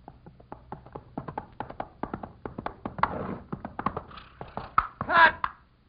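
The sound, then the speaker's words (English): Horse hooves clip-clop in a quick, steady run of sharp knocks, with a brief louder burst of noise near the end, as a horse is ridden toward a snake during a film take. “Can't you get the horse up closer to the snake?”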